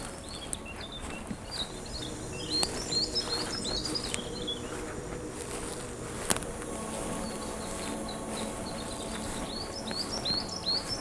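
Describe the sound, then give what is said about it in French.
Scattered high bird chirps and short trills repeat across a quiet outdoor mountain background, with a soft insect-like hum underneath and no one speaking. “Je marche doucement pour ne point effrayer les oiseaux.”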